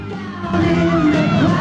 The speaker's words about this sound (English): Angie hands Stoker a joint as they all head out to a waiting car, where a policeman's holding back screaming girl fans.